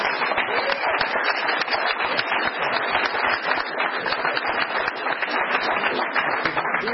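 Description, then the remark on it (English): Steady, dense applause from an audience at an alcoholics' recovery meeting welcoming a speaker, many hands clapping at once in a continuous wash that holds at an even, fairly loud level throughout with no speech on top. “It's my pleasure to request a warm round of applause”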